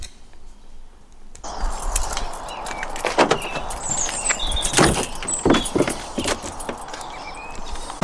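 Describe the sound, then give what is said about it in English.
Road traffic passes by early on a Saturday morning after a hard overnight frost, a steady broad roar rising after a quiet first second, with scattered clanks and knocks and faint high chirps above it; nobody speaks. “It's not ideal here now with the traffic going by”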